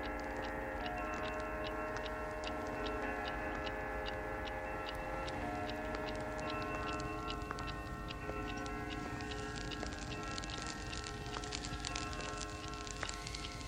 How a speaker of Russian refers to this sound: В гостиной пробило 12. По всем комнатам часы одни за другими прозвонили 12.